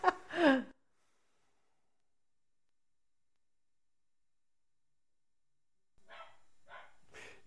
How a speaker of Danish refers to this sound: Jeg har en hund, den gør.